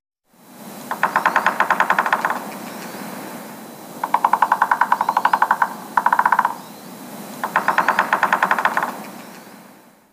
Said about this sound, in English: Three-toed woodpecker.